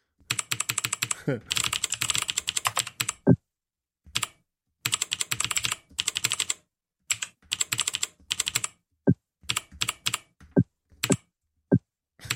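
Rapid bursts of computer keyboard typing during a typing test on a website, dense clicking runs broken by short pauses, with several sharper single key strikes standing out near the end; no one speaks.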